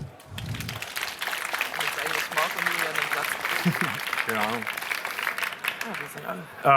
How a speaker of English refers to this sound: Give a very warm applause.